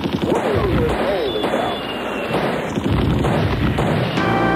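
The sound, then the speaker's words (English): Heavy, rumbling booms from enormous explosions roll through continuously at night, including a large airburst, as wave after wave of attacks comes in. Dense low-end blasts overlap one another with a constant roar, while a voice talks faintly underneath the din. “And that is a very bright flash, enormous explosion.”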